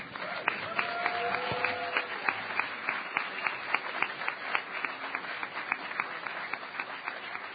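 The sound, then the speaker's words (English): An audience applauds for themselves and their potential, a dense wash of clapping with sharp, evenly spaced claps in a quick, regular rhythm running throughout, holding a fairly even level without any talking. “Applaud for yourself and your potential.”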